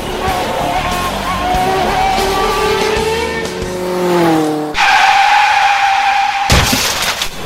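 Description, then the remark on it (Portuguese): A loud car engine, driven by a drunk driver, revs with rising, sweeping pitch, then tires squeal in a long, sustained skid, cut off abruptly by a sharp burst near the end. No one speaks. “E agora, Ayrton Santos acha que está numa corrida de carros.”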